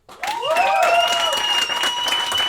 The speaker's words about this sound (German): Okay, also euer Applaus für die Frage